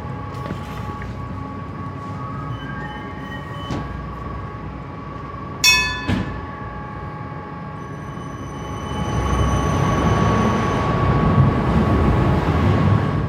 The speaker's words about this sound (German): fährt eins von 42 Tram, die Bernmobil am Morgen auf die Schiene schickt. 16 von diesen Kursen fahren vom Depot vom Eigerplatz aus los.